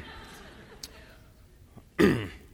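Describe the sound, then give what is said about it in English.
A speaker giving a talk on the Bible's book of James lets out a single sharp, loud cough near the end, preceded by a couple of seconds of quiet background noise and a faint click. “I've got a cough. Excuse me.”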